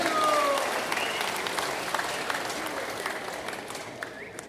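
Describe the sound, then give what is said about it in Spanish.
A crowd claps steadily for their parish priest, a dense wash of many hands applauding that stays loud throughout and slowly tapers off, with a brief tonal sound near the start. “Un fuerte aplauso a nuestro párroco.”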